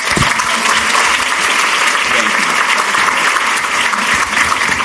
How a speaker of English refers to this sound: See, I stood up just to keep the applause going longer. Thank you for cooperating.